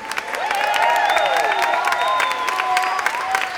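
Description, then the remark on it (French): A crowd applauds steadily throughout for the band's saxophonist and pianist at a concert of songs about Jesus, dense clapping mixed with voices and cheers rising and falling above it, fairly loud. “Comme ça, on peut applaudir aussi Evody au piano.”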